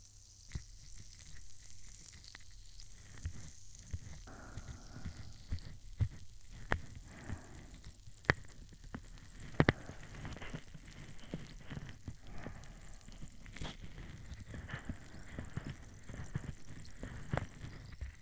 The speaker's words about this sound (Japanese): このタブレットはそんなに強い炭酸じゃないんですけど、その分気が抜けにくくて長持ちするんです。では左側を上に向けてもらえますか？綿棒も始めますね。シュワシュワの泡をつけていきますよ。